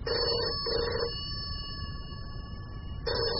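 A telephone rings in the office of an import-export company at 9 o'clock on a Wednesday morning. It gives a repeated electronic trill: two bursts in quick succession, a pause with a steady hum, then another burst starting. Clear, with no voices.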